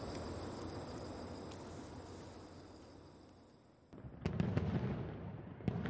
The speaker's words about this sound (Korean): 차창 밖으로는 슈쾅쾅쾅 요란한 폭죽 소리가 끝도 없이 울려 퍼졌다.